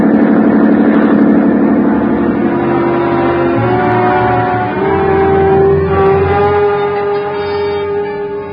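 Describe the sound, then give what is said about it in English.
A police motorboat engine drones steadily at speed, loud, its low throbbing hum holding for several seconds with a rough, churning texture and no voices. “a schooner with auxiliary power is matched against a police boat.”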